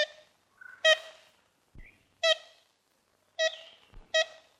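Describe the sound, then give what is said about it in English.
A large woodpecker gives a series of nasal, toy-horn-like calls, single and paired, spaced irregularly with faint knocks between them, heard alone at moderate volume on an old, slightly hissy recording. “They're these big, beautiful birds that actually have been described as the woody woodpecker bird.”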